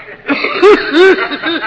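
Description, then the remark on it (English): An exaggerated, staged cough, the one said to have made theatrical history in 1935: two loud, voiced hacking bursts with a croaky, theatrical tone, trailing off into smaller throaty sounds. “And now, will you show us the cough that made theatrical history in 1935?”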